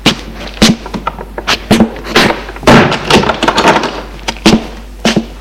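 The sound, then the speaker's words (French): The door of a home is pushed shut as a woman enters, surrounded by a busy series of sharp knocks, bumps and clatters over several seconds, with no one speaking. “Elle entre et ferme la porte de chez elle.”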